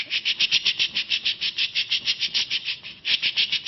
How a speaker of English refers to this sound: what we would hear would be a modulated increase and decrease in the overall population output or firing rate that would sound more like this kind of whooshing sound, this kind of.